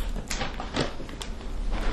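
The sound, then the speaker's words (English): The door of a small 10-by-10 shack slides open with a rough, scraping rumble, a few gritty surges over about two seconds at moderate loudness, with no one speaking. “This is probably the door.”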